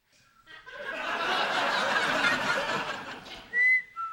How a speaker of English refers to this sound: Oh, a new rule. You have to whistle all the way through the door when you leave.